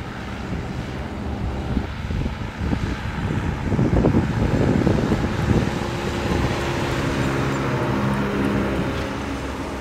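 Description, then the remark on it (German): A heavy vintage car of about 4 tonnes with a large engine rumbles steadily while driving, with a deep low drone swelling midway and wind buffeting the microphone throughout; no one speaks. “Die große Maschine wird wirklich spielen, kommt die zurecht mit diesem riesigen Auto, was ca. 4 Tonnen wiegt.”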